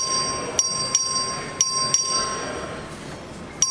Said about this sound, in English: The question occurs on passage to engrossment of House Bill 2217. Record vote has been requested. The clerk will ring the bell.